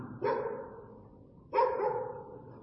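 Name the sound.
dog barking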